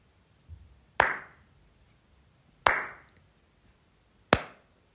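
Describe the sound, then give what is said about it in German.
Three sharp hand claps ring out alone at an unhurried, roughly even pace, each loud with a short decaying echo. “Und ich klatsche noch dreimal.”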